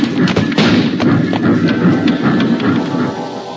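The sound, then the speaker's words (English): A person loses their balance and slips on a train, tumbling down with a string of heavy, muffled thuds and bumps in an irregular rhythm, loud throughout, over a low rumbling clatter and with no talking. “I'm falling”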